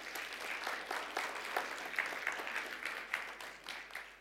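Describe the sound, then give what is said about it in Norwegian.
An audience at a church worship service claps for Jesus. Many overlapping hand claps form a dense wash, with scattered sharper claps standing out. The clapping holds at an even level throughout, with no voices on top. “La oss gi ham en god applaus i formiddag.”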